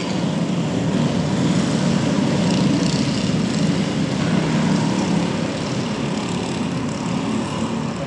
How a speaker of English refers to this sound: Wow. I just feel like lowriders were replaced by these little lawnmower engine scooters. They were all heading that way.